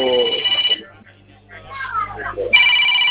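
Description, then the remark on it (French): A phone rings in bright, repeating electronic bursts that stop briefly while a voice speaks, then the ringing starts up again loudly; the phone is with a man during a phone call, who is asked to switch it off or move away. “Pardon, essayez de couper ce téléphone ou vous vous éloignez un peu, s'il vous plaît, monsieur.”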